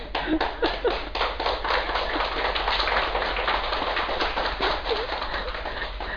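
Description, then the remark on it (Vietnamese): A Buddhist audience at a temple applauds steadily for about six seconds, a dense wash of many hands clapping at a fairly even level, with no voices over it. “Cho nên xin đại chúng vỗ cho mình một tràng pháo tay.”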